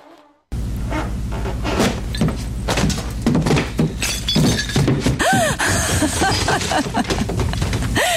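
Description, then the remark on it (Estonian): A floor gives way with a sudden, loud crash that becomes a sustained rumble of breaking wood and clattering debris tumbling down through the floor to the first floor below, with no voices. “esimesele korrusele minnakse ikka trepist, mitte läbi põranda.”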